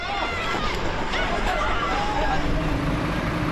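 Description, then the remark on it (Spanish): A dense crowd of Gazans, mostly children, swarms humanitarian aid trucks in the Gaza Strip, their overlapping shouts and chatter forming a loud, busy hubbub, with a low rumble of engines and movement underneath throughout. “Gazatíes, en su mayoría niños, se abalanzan sobre los camiones de ayuda humanitaria.”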